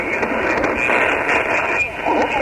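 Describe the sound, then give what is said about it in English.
Steady radio noise with a buzzy, garbled signal from a station tuned off sideband, a muffled warbling tone sitting under continuous static with no clear words. “It sounds like he's on lower sideband or something. We're just barely hearing a buzz, over.”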